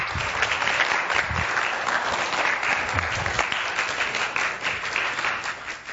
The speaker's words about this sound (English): Let's give her a hand.